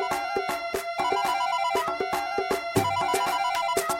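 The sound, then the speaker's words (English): A mobile phone rings with a musical ringtone, a bright repeating melody over a steady percussive beat, playing loudly and continuously throughout with no one talking. “Oh, my other phone's ringing.”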